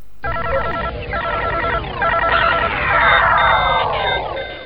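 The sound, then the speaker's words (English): Busy electronic computer game beeps: rapid synthetic chirps and bleeps mixed with falling zap-like sweeps, layered densely and playing continuously at a fairly loud level, with no voices. “Play computer games.”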